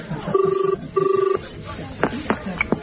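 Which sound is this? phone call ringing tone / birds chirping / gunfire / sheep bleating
phone call ringing tone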